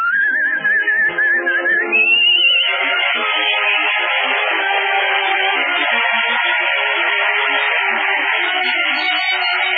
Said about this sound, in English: I better whistle it.